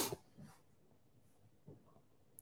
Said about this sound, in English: Sorry for the cough, everyone.